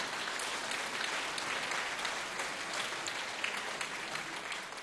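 A crowd applauds steadily for several seconds, a dense wash of many hands clapping at an even, fairly loud level with no voices on top.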